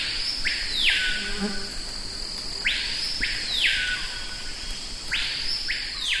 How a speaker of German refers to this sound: Name: Paypayo-Vogel. Adresse: Französisch-Guayana, direkt neben Suriname und Brasilien gelegen. Tja, so unterschiedlich können Nachbarn klingen.